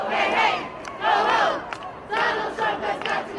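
A large crowd of protesters mocking President Trump in 2017 chants in unison, loud rising-and-falling shouted phrases repeating in a steady rhythm, with a brief pause between each call.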